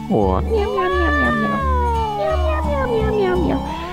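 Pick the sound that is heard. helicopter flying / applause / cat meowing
cat meowing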